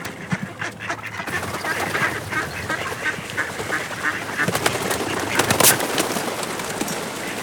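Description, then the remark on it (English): Wood ducks calling in flooded forest bottomland over a busy outdoor backdrop, with repeated sharp squealing calls and other birds chattering steadily throughout; no one speaks. “You have to be in the right place to see wood ducks because they require flooded bottomlands.”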